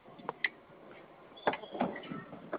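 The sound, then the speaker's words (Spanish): A door opens with a few sharp clicks and clunks of the latch, followed by a brief scraping slide, moderately loud, with no talking. “¿Me puedes escuchar la apertura de la puerta?”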